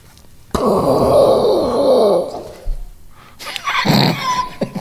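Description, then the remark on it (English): A person imitates thunder with their voice as a sound effect for an establishing shot of the city: a loud, sustained groaning rumble lasting about two seconds, then after a short pause a harsh, breathy hissing burst. “Hang on, I gotta do the thunder noises.”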